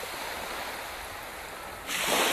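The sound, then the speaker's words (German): Steady ocean surf washes against a shore, a broad continuous hiss that swells louder near the end as a wave surges in. No voices, just the rushing water. “Wer von uns träumt nicht allzu oft von schönen fernen Ländern, weißen Traumstränden und dem Rauschen des Meeres?”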